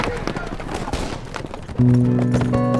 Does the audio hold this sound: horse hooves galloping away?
yes